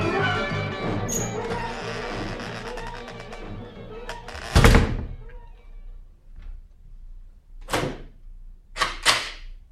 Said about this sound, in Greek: Έκλεισες καλά την πόρτα. Έβαλες και την αμπάρα. Την έκλεισα και έβαλα και το σύρτη.